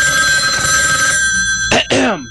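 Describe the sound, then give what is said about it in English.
A telephone bell rings loudly: a sustained metallic ring that tapers off, followed by two quick, bright bursts of ringing, with faint low rumbling underneath. “Any second now he should be calling me.”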